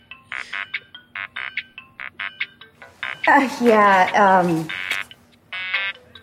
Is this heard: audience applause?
no